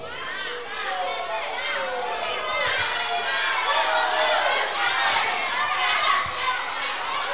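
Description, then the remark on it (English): A crowd of children shouting and chattering at once, high-pitched voices overlapping continuously in a loud, steady din with no pauses. “Some of you are shouting, you want to bath.”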